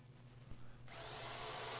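A low motor hum gives way to a power drill starting up and grinding steadily, drilling holes into a wall to search for a golden Easter egg, a continuous whine with no talking.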